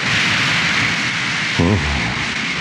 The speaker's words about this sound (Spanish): Ahí está ya la patrulla de combate. 5 poderosos aviones van a interceptarnos.